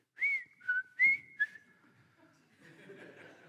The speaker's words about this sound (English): And you're whistling.